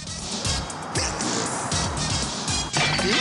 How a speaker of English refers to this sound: The windscreen cracks and the patrol car crashes.